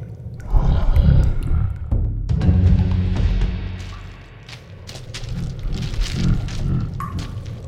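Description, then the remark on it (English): Deep, slow breathing from a giant worm asleep in a tunnel, low wet rumbling inhales and exhales swelling and fading in long, heavy surges with no talking. “Wait, I think that tunnel is breathing.”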